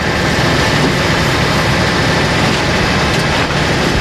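A heavy truck engine at a construction site rumbles steadily and loudly, a dense low-pitched roar with grinding mechanical texture that holds constant throughout, with no voices.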